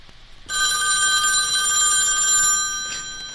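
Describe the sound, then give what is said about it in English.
A telephone bell rings loudly and steadily, a bright metallic trill that starts abruptly after a brief pause and keeps ringing for about three seconds, easing off slightly at the end. “How does the telephone ringing make a song?”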